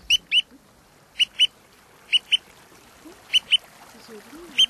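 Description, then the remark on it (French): A woodcock call blown on a decoy whistle: sharp, high double chirps repeated about five times at steady intervals, clear over a faint low background murmur. “Alors je vois des apôts de bécasse.”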